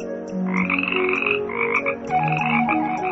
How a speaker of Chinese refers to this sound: 每天夜晚，不管在莲叶上、池塘畔还是石头缝间，总会洋溢着青蛙快乐的鸣叫声。